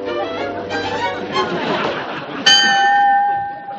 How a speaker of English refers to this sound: Mommy, the doorbell rang. Doorbell? Well, you never know. Maybe Larry installed it as a security alarm.